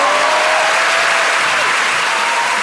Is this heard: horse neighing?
no